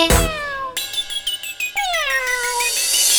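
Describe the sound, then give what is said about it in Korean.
A series of high-pitched kitten meows, fairly loud, each drawn out with a wavering pitch that slides downward, following one another with no talking. “냐옹냐옹냐옹 파이를 안 주신대.”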